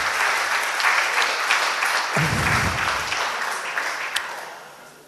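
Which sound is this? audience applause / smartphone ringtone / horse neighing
audience applause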